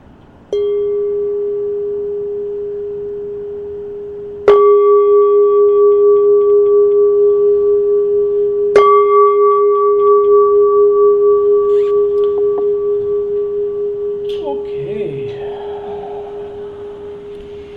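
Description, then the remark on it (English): A meditation gong is struck three times, a few seconds apart, to close a meditation session. Each stroke renews a steady, mellow ringing tone with bright overtones that slowly fades, and a voice starts speaking near the end. “We've come to the end of the meditation, so I'll now ring the gong 3 times and we can come out for meditation at the end of the 3rd chime.”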